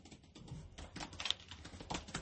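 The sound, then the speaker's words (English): Rapid, uneven keystrokes clatter on a computer keyboard as the speaker types up a thought, fairly quiet, a steady stream of clicks with no talking over them. “You can hear me typing.”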